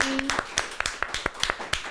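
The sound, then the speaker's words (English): A short round of applause for guest GK Barry: roughly ten sharp, crisp claps in a fairly steady rhythm, moderately loud, with no talking over them. “Round of applause.”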